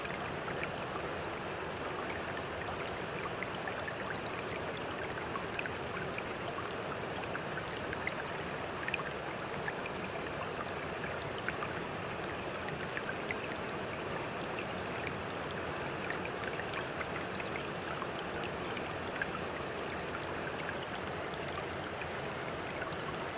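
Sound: fast-flowing river water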